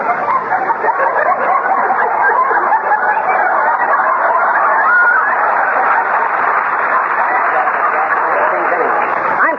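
A loud, dense flock of chickens clucks and squawks without pause, a busy overlapping chorus filling the whole stretch, slightly muffled like an old recording.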